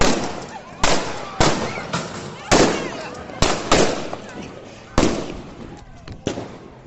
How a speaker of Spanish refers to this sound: Pues sí, tanto es así que la policía tuvo que realizar disparos de fogueo para intentar controlar la situación.